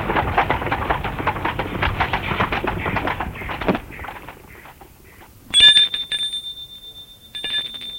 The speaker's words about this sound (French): L'on a sonné à la porte.